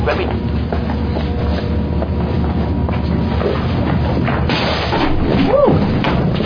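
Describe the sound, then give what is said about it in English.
A heavy door creaks with a brief rising-and-falling squeal and swings shut with a dull thud, over a steady, loud rumbling background. “Damn, that's a heavy door.”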